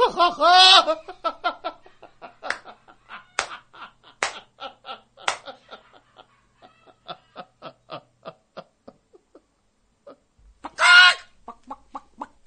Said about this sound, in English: The clucking chicken. You know it, you love it.